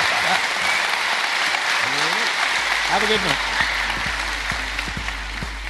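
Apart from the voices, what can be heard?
audience applause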